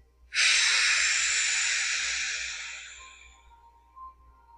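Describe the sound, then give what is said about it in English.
A single long, breathy exhale blown out from the abdomen through the mouth during a deep-breathing exercise, starting abruptly and slowly fading over about three seconds, fairly loud with no talking. “As you exhale, exhale out from your abdomen, up and out through your mouth.”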